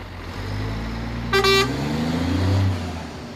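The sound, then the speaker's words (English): A large truck with a loaded trailer rumbles and shifts as it pulls away, departing for the ferry, bound for a garden centre chain in the London area, with one short, bright horn toot near the middle over the steady low drone of the motor. “And once the last pallet is loaded on this particular trailer, paperwork is completed and the truck departs for the ferry and its ultimate destination, a garden centre chain in the London area.”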